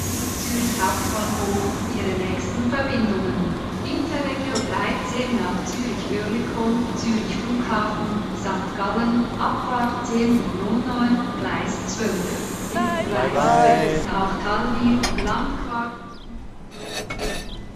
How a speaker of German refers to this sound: Ankunft in Zürich auf Gleis 8. Es ist kurz nach 10. Der Zug hat ungefähr eine Stunde Verspätung.